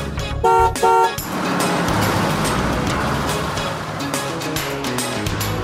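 A bus horn gives two quick, loud toots in a row, followed by a steady, rumbling engine that keeps running with no one speaking.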